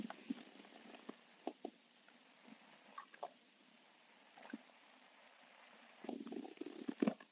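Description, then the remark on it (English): Someone takes a quick sip of water: quiet, scattered wet clicks and gurgles, then a louder burst of swallowing near the end. No one speaks. “But I'm going to take a quick drink of water first.”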